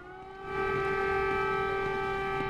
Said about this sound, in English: The dawn chorus that no one wants to hear. Air raid sirens in Kyiv, signaling that the full-scale invasion of a European country in the year 2022 was well underway.